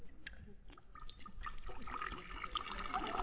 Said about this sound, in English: Give me a chance to get the cork out of the bottle. Now, I'll just pour you a short one.